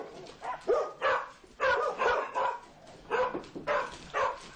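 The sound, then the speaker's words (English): Dogs waiting at the door for a visitor coming to rehearsal bark in a steady run of sharp, closely spaced yaps and woofs, about eight or nine in quick succession, moderately loud, with no talking. “I've told all the dogs he's coming and everyone's waiting at the door for him.”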